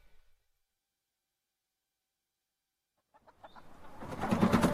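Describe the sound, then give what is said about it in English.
After about three seconds of silence, chickens start clucking and squawking, the commotion building quickly into a loud, busy flurry by the end. “You've got to be nice to the chickens. They won't lay properly if you chase after them.”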